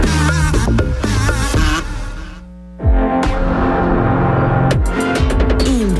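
A loud buzzing like a fly, droning continuously with a shifting pitch, briefly dropping away near the middle before surging back in with sharp pulses toward the end.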